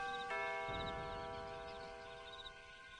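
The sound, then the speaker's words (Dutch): A doorbell, pressed by Adriaan, chimes once with a bright ding-dong, its sustained tones ringing clearly and slowly fading out over a few seconds with no talking. “Oh, hij drukt op de bel.”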